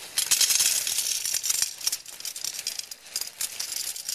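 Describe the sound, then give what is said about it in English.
Small stones rattle and hiss as gravel is poured into a vessel already holding rocks and shaken around, a dense, bright clatter of many tiny clicks that swells and thins unevenly over a few seconds, with no talking. “And the gravel kind of falls down, and we're not going to do the whole thing.”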